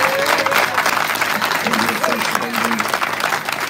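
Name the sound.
audience clapping hands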